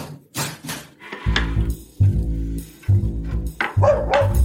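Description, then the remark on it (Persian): A dog named Hap Hap barks in a quick series of loud, deep woofs, separated by brief pauses, with no one talking over them. “هاپ هاپ برو کنار ببینم، نکنه بازم با پاد زدی کاسه رو هل دادی پشت کمد.”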